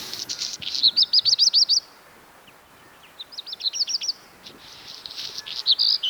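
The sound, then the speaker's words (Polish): A black redstart sings: a quick burst of high, bright whistled notes, a scratchy rustling stretch, then another run of chirping phrases, with no voices present. “Tam lubi przesiadywać kopciuszek na wyeksponowanym miejscu.”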